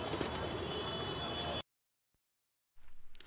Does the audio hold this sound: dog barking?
no